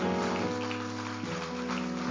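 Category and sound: crowd, audience clapping hands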